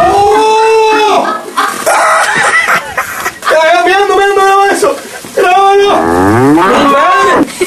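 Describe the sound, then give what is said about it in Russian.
A Spanish cow named Milka moos loudly, several long, wavering calls following one another with brief pauses between, some bending sharply in pitch. “Это испанская корова Милка.”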